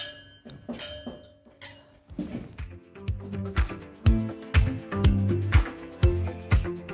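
Wine glasses clink together a few times in a toast, leaving a short bright ring, before a rhythmic music track with drums and bass kicks in.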